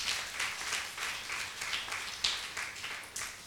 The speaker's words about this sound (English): Let's clap for the teachers of the Sunday school.